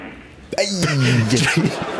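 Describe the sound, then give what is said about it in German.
A spectator in the audience of a final in a vast arena makes a loud, wavering fart noise with their mouth, a buzzy sputtering imitation lasting about a second and a half over a hushed, noisy arena background, interrupting the players. “Aber im Publikum hat mit Furzgeräusch der Final gestört.”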